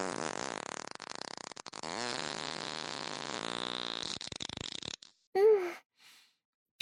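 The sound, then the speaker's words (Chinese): A loud, drawn-out fart rumbles and sputters for several seconds, ending in a brief squeaky burst before falling quiet. No one speaks. “屁声好大呀，好臭啊。”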